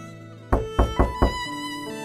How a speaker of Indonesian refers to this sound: Ia kemudian memberanikan diri mengetuk pintu kamar Eyang.